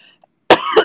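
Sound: coughing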